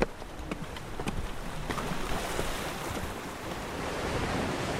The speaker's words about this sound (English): We've made it to the sea. We gaze out over the turbulent Firth of Forth. This is the very harbour where King James was supposed to bring his new bride ashore, Princess Anne of Denmark.